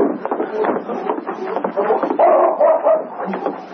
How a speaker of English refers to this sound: I hear a dog. It's King.